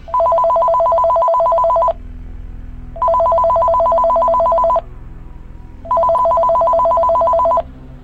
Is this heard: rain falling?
no